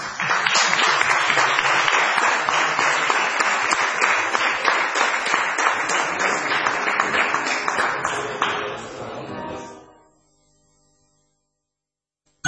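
Sustained audience applause, a dense wash of many hands clapping steadily and loudly for about nine seconds, then fading quickly into silence.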